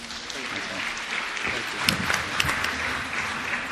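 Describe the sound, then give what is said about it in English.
An audience at a panel event claps steadily to welcome the panel chair, a dense, even patter of applause with a few sharper individual claps standing out, moderately loud and sustained throughout. “So a round of applause for Dr. Ron Baldessari.”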